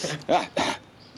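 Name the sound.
sneeze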